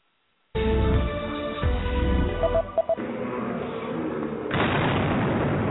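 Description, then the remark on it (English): A bomb explosion at the Boston Marathon, a few feet from the finish line, erupts suddenly out of silence with a heavy, deep boom, followed by a sustained roaring rumble and a second surge of harsh noise near the end. “Thousands had already crossed the line by the time the explosion went off, but many were still running the 26.2-mile course.”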